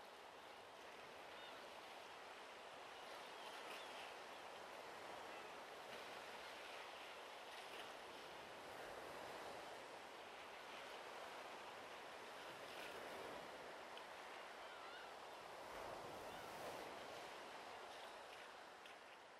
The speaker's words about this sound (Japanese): どうかしら。たまにはこうして穏やかな海の音を聞くのもいいでしょう。